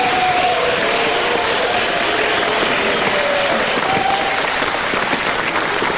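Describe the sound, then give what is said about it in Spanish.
A crowd applauds the first contestants of a contest, steadily and loudly for the whole stretch, a dense wash of clapping with faint cheering mixed in and a few brief tonal notes underneath. “Un aplauso está para bien, nuestros primeros concursantes.”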